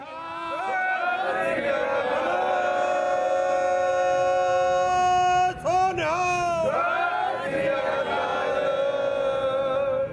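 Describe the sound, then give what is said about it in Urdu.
A crowd of Sikh pilgrims chants slogans together in loud, sustained unison as they enter a centuries-old gurdwara in Nankana Sahib, Punjab, Pakistan, voices rising and falling in long drawn-out calls with a brief surge of shouting partway through. “نعرے لگاتے یہ سکھ یاتری ننکانہ صاحب میں اپنے صدیوں پرانے گردوارے میں داخل ہو رہے ہیں.”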